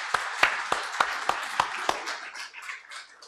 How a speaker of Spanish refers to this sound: Amén y amén. Amén. Un aplauso nuevamente al Señor por la vida de nuestras madres.